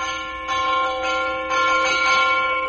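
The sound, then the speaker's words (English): A clock strikes twelve with steady, evenly spaced bell strikes, each ringing tone blending into a sustained metallic hum, loud with no voices. “The witching hour approaches. The clock strikes 12.”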